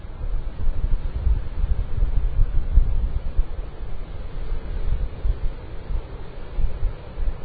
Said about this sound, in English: You know, it's interesting. I don't know how much of that is wind, how much of that is ocean, but it's never ending.